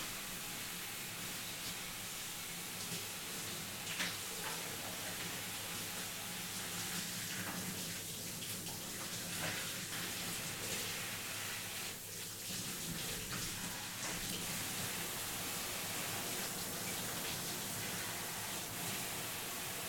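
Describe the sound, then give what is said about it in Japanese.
A steady, unbroken rush of warm water pouring from a tap, an even splashing hiss that continues for the whole stretch without pauses or voices. “あったかいお湯って落ち着くから。”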